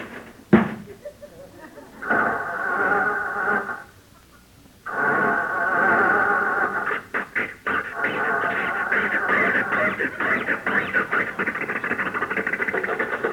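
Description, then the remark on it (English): A car door thuds shut, then a car engine cranks, pauses briefly, and catches, settling into a loud, steady running rumble with some sputtering, as Rochester tries to start the car in front of the house. No one speaks. “Jump in, Rochester, see if it'll start.”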